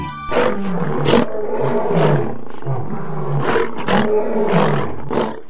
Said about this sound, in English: What are those roars? We are being followed by a group of Talithas. They are beasts with the bear's body and the tiger's head, with long, sharp claws.